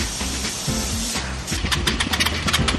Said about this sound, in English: And the jet doctors are still having engine trauma. It doesn't sound like it's hitting.